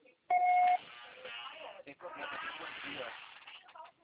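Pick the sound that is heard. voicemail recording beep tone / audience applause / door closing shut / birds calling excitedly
voicemail recording beep tone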